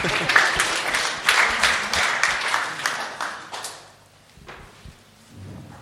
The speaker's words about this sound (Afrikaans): Dankie julle. Julle kan vir ons 'n lekker hande klap gee.